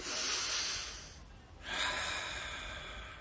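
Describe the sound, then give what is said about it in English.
Deep, slow abdominal breathing focused on a long out-breath: a long airy breath, a brief pause, then another long, steady out-breath that trails on, with no talking. “Why don't you do some deep breathing? Like this, from the abdomen, concentrating on a long out-breath, letting the in-breath take care of itself.”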